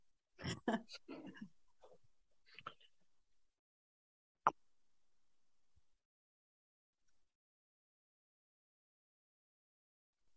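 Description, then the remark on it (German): A person takes a quick drink: soft slurping and swallowing sounds with a breath, then a sharp knock like a cup set down, followed by silence. “Ich muss einen Schluck trinken.”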